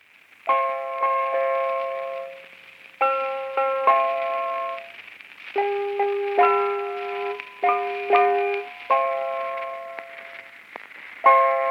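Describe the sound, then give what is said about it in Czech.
A short radio interval signal melody for the Brno radio branch plays on an automatic piano made by the firm Petrov. Hammers driven by an electric-motor-powered rotating drum with metal pins strike the strings. Crisp notes ring out in a handful of repeated phrases separated by brief pauses, clear with no voices. “Přehrávala se několikrát denně automatickým klavírem, který zhotovila firma Petrov.”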